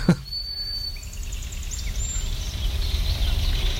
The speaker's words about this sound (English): Oh, and there's a kingfisher. That chattering is a kingfisher coming by. Yeah, looking for some fish to plunge down and grab.